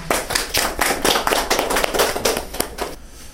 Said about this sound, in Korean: 박수로 해.